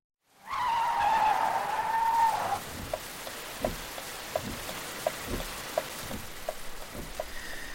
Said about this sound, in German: Ein lautes Geräusch, wie man es wohl in einer Stahlfabrik hätte hören können, hallte im Innern des Autos wider. Die silberne Limousine, die durch den strömenden Regen gerast war, kam nun mitten auf der Straße zum Stehen.